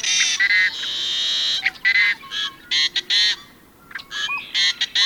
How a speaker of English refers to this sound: Equally arresting are the raucous growls, wails, and whistles of another western bird, the yellow-headed blackbird.